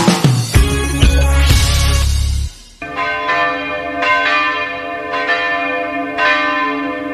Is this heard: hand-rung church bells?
yes